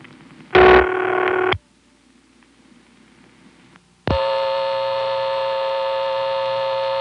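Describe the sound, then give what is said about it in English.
A harsh, buzzy electrical hum of an unbalanced power supply on a phone line held off by the central office's lockout relay after an attempted hang-up: a short loud burst, a few seconds of faint low hum, then a steady, loud droning buzz that continues to the end. “And you can tell that by the sound of unbalanced power supply that I suddenly found myself on.”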